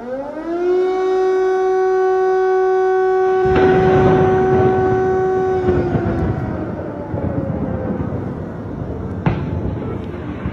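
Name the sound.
air raid siren wailing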